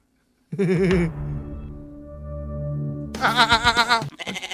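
A goat bleats loudly, a quavering cry followed by a longer held call, then another wavering, rapid bleat and a brief final burst.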